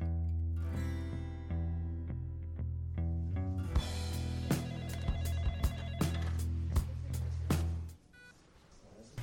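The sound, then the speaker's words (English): A steady, repeating electronic beep pulses in an even rhythm over a sustained droning tone, with a few sharper clicks mixed in, before cutting off abruptly near the end. “Can you hear that? That constant beep, beep, beep.”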